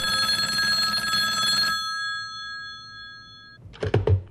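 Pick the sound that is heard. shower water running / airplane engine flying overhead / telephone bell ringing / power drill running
telephone bell ringing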